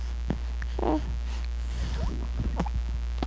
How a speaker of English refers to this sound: Ooh, that was a little kind of burp.